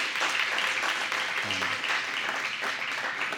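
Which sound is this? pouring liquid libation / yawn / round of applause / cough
round of applause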